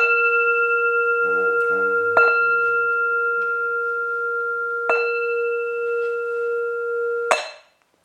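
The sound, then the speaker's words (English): A bright, clear bell is struck three times at steady intervals to start a group chant, each strike blooming into a long, shimmering ring that sustains and overlaps the next before fading, with a faint low rumble near the start. “Oh, could I borrow a bell?”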